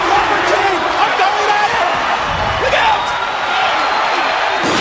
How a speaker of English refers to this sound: Oh, this was awesome. That pop is the number one pop. That glass breaking.